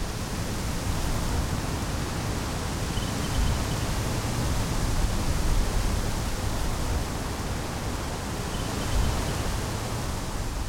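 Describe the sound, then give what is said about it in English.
Fast-flowing, quite full river water by the walk up to Box Hill rushes in a steady, dense wash of noise for about ten seconds, full and unbroken with only slight swells in loudness and no voices. “It's so lovely watching the water flow past us. Quite fast flowing, actually.”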